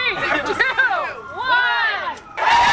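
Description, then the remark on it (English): A lively crowd gathered outdoors on South Street, Philadelphia, at the ribbon cutting for the opening of Marsha's, the city's first queer women's sports bar, on a Friday night, many voices overlapping in excited shouts and whoops, swelling loudly near the end as the cheering builds. “the crowd gathered outside flooded the doors for the first Friday night of many in the new queer women's sports bar”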